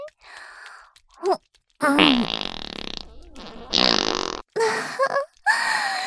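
A series of loud fart sounds, several drawn-out, rumbling blasts with short pauses between them, the longest stretching for about a second. Nobody speaks.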